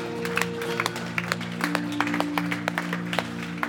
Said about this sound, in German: Lass uns Jesus einen kräftigen Applaus geben. Ja, ist doch so gut.